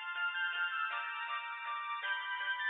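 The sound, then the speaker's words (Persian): The speaker's own mobile phone rings with a ringtone that plays a bright, electronic melody repeating in short phrases throughout, steady in volume, with no one talking over it. “این گوشی من داره زنگ میزنه، من با شما تماس میگیرم حقیقتش زنگ میزنم.”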